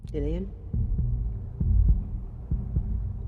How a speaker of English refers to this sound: You have a very special heartbeat. Your heartbeat's like nobody else's.